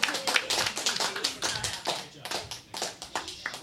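A short burst of applause from a small group, with quick, irregular claps overlapping at moderate loudness for a few seconds before it tapers off.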